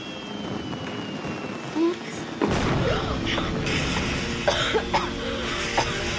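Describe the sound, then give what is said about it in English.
Indoor fireworks meant for stadium use go off: a sudden loud burst after a couple of seconds of room noise, then steady hissing, crackling and scattered sharp pops for several seconds, with faint voices underneath. “Even says on the box, indoor fireworks.”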